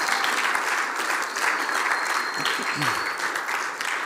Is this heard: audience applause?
yes